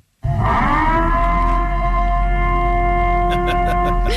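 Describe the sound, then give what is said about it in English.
A loud, sustained, ominous civil defense siren wail, sounded in a small town in Louisiana to signal a coronavirus curfew, droning steadily on a rich, layered tone from start to finish with no talking over it. “But the siren that the sheriff picked is the Purge siren.”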